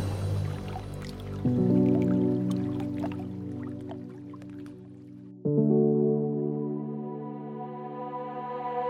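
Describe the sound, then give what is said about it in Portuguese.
Water drips in sharp drops, with two resonant swells where a drop lands and rings out, the second rising in pitch like liquid filling a vessel. No voices. “Essa gota era água segura, como a água da rede pública.”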